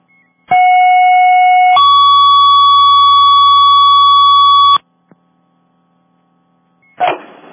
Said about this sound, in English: Dispatching second alarm of sound on box 442, number 5, Bates Grove Road, reported working structure fire. Again, second alarm of sound on box 442, 5 Bates Grove Road, reported working fire.